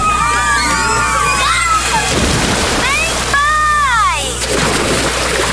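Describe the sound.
Water sloshes and splashes continuously while excited voices shout and whoop over it, with bursts of splashing in between, like a lively crowd playing at a water park. It is used in an advertisement for Áureas Parque, a large water park with a wave pool, artificial beach and water slides.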